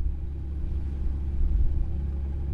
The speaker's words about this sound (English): A cold rain spits on a car ferry in County Clare, Ireland.